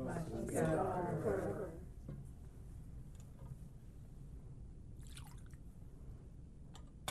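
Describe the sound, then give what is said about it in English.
A brief murmur of voice at the start gives way to quiet, where a few faint, soft drips of water fall into wine in a chalice during Holy Mass, sparse and close. “In the mystery of this water and this wine, may we come to share in the divinity of Christ, who humbled Himself to share in our humanity.”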